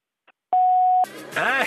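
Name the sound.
answering machine beep tone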